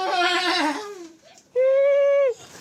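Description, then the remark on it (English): A horse neighing sound, loud, in two bursts: first a shaky, wavering whinny, then after a brief pause a steadier, sustained call that cuts off abruptly. “That makes a horse's noise.”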